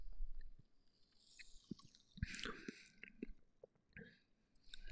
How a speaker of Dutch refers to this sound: Ik ga eens een slokje nemen.